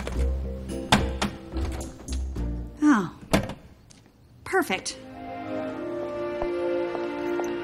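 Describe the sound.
Kitchen cabinet doors bang open and shut as a woman opens all the cabinets and doors, several sharp wooden thunks in an uneven sequence, with the woman briefly speaking between them.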